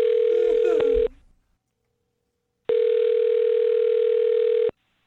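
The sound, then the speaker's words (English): A telephone ringback tone sounds twice after a woman's phone number is dialed: a steady, buzzy electronic ring lasting about a second, a pause of silence, then a second, longer ring. There is no talking. “Well, I'm going to dial her phone number and get her on the phone and find out why she's not calling you back.”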